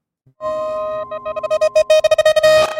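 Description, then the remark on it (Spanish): A distorted, alarm-like electronic sound-design effect in main title music holds a steady pitch, then breaks into rapid choppy pulses that stutter faster and grow harsher toward the end. “Ese sonido es muy bueno. Que es como una alarma distorsionada y entrecortada.”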